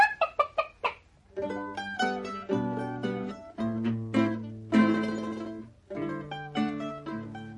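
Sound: hen clucking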